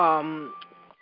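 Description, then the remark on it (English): A phone rings with an incoming call on another phone, an electronic ringtone: a rich buzzy tone fades into a thin, steady beep with a few soft clicks, brief and moderately quiet. “Sorry for the phone call, but coming in on another phone.”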